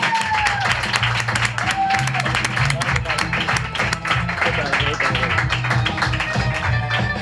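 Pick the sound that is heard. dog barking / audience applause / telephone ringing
audience applause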